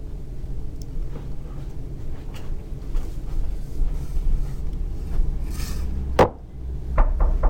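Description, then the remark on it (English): Sharp wooden knocks on a door over a steady low rumble: a single loud rap, then a quick cluster of three or four more knocks a moment later. “We could do the knock and enter thing.”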